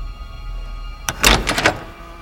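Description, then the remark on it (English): A locked doorknob jiggles: a sharp metallic click, then a quick burst of rattling twists that stops abruptly, over a quiet, steady hum. “The locked doorknob jiggles.”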